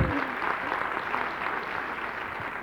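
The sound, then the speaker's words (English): An audience breaks into steady applause for a speaker's daughter as she is introduced, many hands clapping at once in a dense, continuous patter that holds evenly throughout, fairly loud, with no voices standing out. “Can you clap her?”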